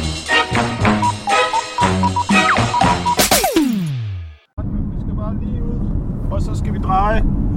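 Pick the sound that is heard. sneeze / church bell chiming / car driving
car driving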